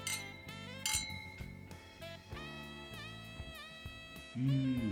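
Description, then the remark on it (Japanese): Several bright clinks of wine glasses in a toast ring out in quick succession, their tones lingering and overlapping against a soft backdrop of room sound and light music; the glasses hold a Muscat Berry red wine blend from Ushiku Chateau. “うん、では早速乾杯したいと思います、 はい。”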